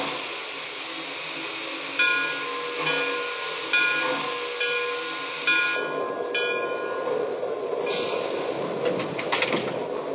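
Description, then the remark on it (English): Train number 3703 slows into Elizabeth station with a steady low rumble, high squealing brake tones, and short bursts of hissing air every couple of seconds, with no voices. “train number 3703.”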